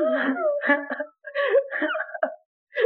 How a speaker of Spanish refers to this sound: ¡Oh, llora! Los perros viejos tienen más dignidad.